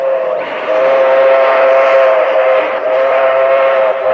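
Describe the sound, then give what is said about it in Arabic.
A train rushes past, its loud horn blaring in one long, steady tone over a rumbling roar of wheels that holds for several seconds. “قطار؟ هذا مستحيل، لن نخاطر بحياتنا.”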